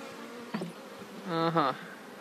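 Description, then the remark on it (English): A steady hum of many bees around beehive boxes, each holding about 8,000 bees, fills the background, with two louder buzzes of individual bees flying past, the second longer and stronger. No one speaks. “How many bees are in one of these boxes? Well, there's about 8,000.”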